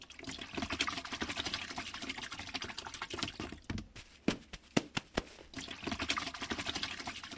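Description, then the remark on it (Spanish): Water pours steadily into the first of the tanks being filled, a continuous splashing rush with a brief pause broken by a few sharp knocks before the flow picks up again. No one speaks. “Ya mero termino llenando el primer tanque.”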